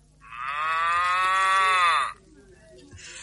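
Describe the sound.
A person with a cold imitates a cow over a phone line with one long, loud, drawn-out moo lasting about two seconds, its pitch steady before sagging slightly at the end, followed by quiet background noise.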